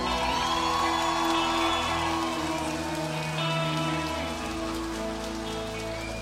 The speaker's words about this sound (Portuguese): Então eu queria que vocês todos dessem uma salva de palmas para Porto do Sol.